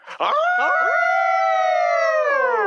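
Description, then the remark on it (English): A single long howl rises quickly after a brief yelp-like start, then holds a steady, loud, drawn-out tone for a few seconds before tapering slightly at the end, with no talking. “Hashtag howl noise.”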